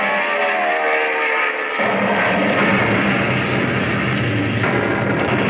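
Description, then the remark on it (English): A lone airplane's engine roars continuously with a harsh, dense rumble as it flies through a gray, smoke-heavy battle sky toward its target, a Japanese cruiser, then swoops downward; its droning tone shifts as the noise swells and thickens partway through. No voices are heard. “Through the gray sky, still heavy with the smoke of battle, a lone airplane roars toward its target.”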